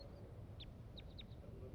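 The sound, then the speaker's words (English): Wild crossbill song from a single wild bird in the top of a pine tree: a handful of short, high chirps, one alone and then a quick cluster of four, fairly faint over a steady low rumble. “Song from the wild bird.”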